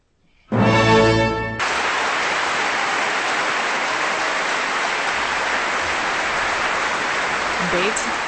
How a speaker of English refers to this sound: Wow, they really like that one. Beethoven Symphony Number 7 here on KPR. The applause keeps going for another 30 seconds.